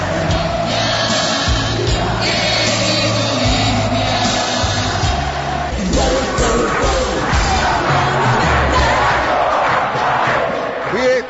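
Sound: stadium crowd cheering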